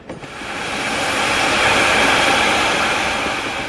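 A steam train lets out a long, loud hiss as it puffs away down the track. The hiss swells within the first second and holds steady, with a low rumbling chug of the engine underneath and no voices.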